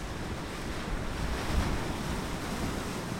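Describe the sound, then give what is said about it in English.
Storm waves crash and churn against the Bering Sea shore a few feet from an archaeological dig site in Alaska's Aleutian Islands, in a steady, loud roar, with gusting wind buffeting the microphone and a surge peaking briefly midway through. “Only a few feet away from the Uducton archaeological dig site, waves from a storm are crashing into the shore.”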